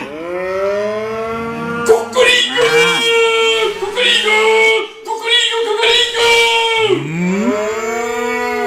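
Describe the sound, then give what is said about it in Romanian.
A herd of oxen and cows moos loudly, long drawn-out lowing calls overlapping one another for several seconds, like a herd bellowing together with no one speaking. “Vezeteul iarăși ia cucoșul și îl zvârle în cireadă.”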